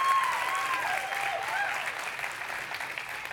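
audience applause

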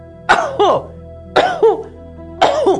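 coughing

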